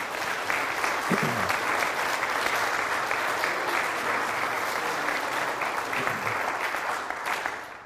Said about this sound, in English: Applaud the Lord this morning.